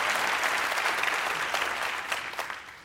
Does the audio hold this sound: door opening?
no